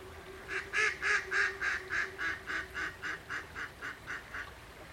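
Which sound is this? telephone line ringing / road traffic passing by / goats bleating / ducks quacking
ducks quacking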